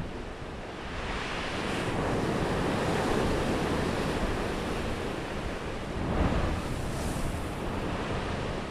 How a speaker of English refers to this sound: As darkness falls and the weather worsens, the importance of improved instrumentation is clear. The wind is howling, and the snow is so heavy the crew can't see past the bow.